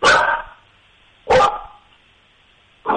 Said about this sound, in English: That's a testament to how smart he is and how lazy I am. He barks when we say pizza.